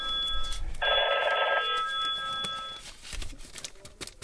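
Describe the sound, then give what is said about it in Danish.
A telephone bell rings at Bredegård Lokalradio for an incoming listener call, in one sustained burst of about a second, bright and fairly loud, its tone lingering faintly before quieter room noise follows. “Så tager du telefonen.”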